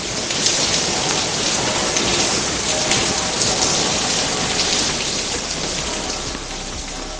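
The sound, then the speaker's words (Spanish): Heavy rain pours down steadily in Seville on Corpus Christi day, a dense, loud hiss of countless drops drumming on surfaces with no break for the full stretch, and no voices. “Sevilla ha vivido un día de Corpus inédito, con la procesión recogida en el interior de la catedral, mientras afuera era el momento en el que jarreaba agua con más fuerza.”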